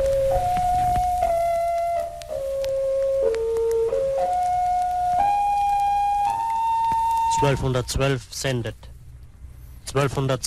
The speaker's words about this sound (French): La petite musique qu'on entend au début, en fait, ça permettait de caler son poste sur cette radio. Et puis le monsieur dit, c'est Radio 1212, Radio 1212 qui vous appelle. 1212, c'était la fréquence.